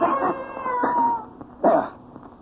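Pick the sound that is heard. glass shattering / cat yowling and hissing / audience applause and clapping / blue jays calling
cat yowling and hissing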